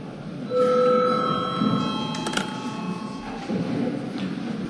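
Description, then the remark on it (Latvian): A Saeima parliament session bell, called for after the day's agenda items are finished, rings in one steady, continuous electric tone for about three seconds, bright and ringing with overtones, over a low murmur of background noise, then cuts off. “Līdz ar to lūdzu zvanu.”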